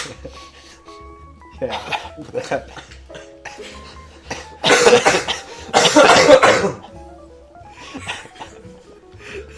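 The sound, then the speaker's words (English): Several loud, harsh coughs burst out in a studio, clustered in the middle, with softer throat-clearing and scattered voices around them. “Next 3 minutes, we're just going to cough.”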